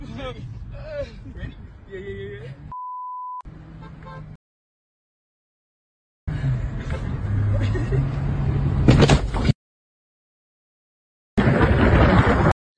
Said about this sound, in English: They also bump on another car.